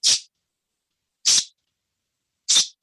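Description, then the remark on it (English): Three short, sharp bursts of compressed air hissing from a pet corrector can, a sound interrupt for dogs or cats, each a bright, airy spray lasting a fraction of a second, spaced about a second apart with silence between. “Okay, but this is now designed as a sound interrupt for dogs or cats, called a pet corrector.”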